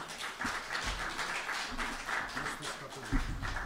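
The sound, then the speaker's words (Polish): A small audience claps steadily for a few seconds, a dense, even patter of many hands at moderate loudness, with a few heavier low thumps mixed in and no talking. The audience is welcoming a priest who arrives as the guest, carrying a prop, at the 77th meeting of the museum talk series on John Paul II. “To może go przywitajmy oklaskami.”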